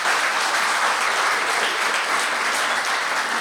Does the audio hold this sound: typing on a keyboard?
no